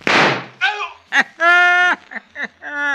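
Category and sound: sound effect, gunshot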